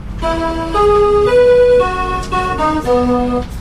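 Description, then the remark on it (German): A train nears the station of Dorf Mecklenburg, the village next to Wietow, a few kilometres from Wismar on the Baltic coast in Mecklenburg-Vorpommern, Germany, sounding a loud, reedy melody of about seven sustained tones that step up and down in pitch, steady and uninterrupted, with no voices. “Und wenn man sich mit der Bahn dem Nachbardorf nähert, wo der Bahnhof ist, hört sich das so an.”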